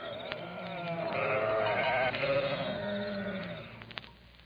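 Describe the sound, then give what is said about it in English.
A sheep from a flock kept by shepherds on the hills near Bethlehem at night bleats in a long, wavering cry that holds steady for several seconds before trailing off, clear, with no talking over it. “Out there in the hills, shepherds were keeping watch over their flocks of sheep that night.”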